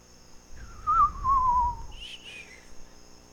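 Someone whistles a wavering tone that slides gradually downward, followed by a couple of brief, higher chirping notes, heard over a low background rumble with no talking.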